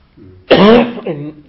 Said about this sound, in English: I do have this chesty cough, which I seem to have had ever since I caught COVID about 18 months ago.